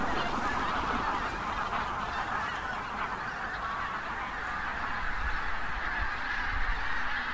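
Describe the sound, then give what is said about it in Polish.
A huge flock of geese passes overhead, countless honking calls blending into a dense, continuous clamor that stays loud and steady throughout, with no voices. “Mieliśmy przelot nad nami i w naszym kierunku zdecydowała większość ptaków poleciała”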